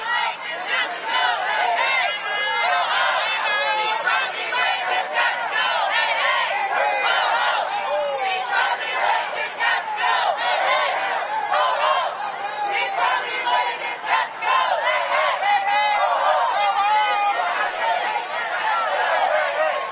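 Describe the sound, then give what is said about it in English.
A large crowd of protest marchers chants and cheers continuously while marching west on 47th Street, many voices blending into a loud, steady roar with rhythmic shouts rising throughout, dense for the whole stretch. “After the speechifying and burgers and hot dogs, the crowd began to line up and start marching west on 47th Street.”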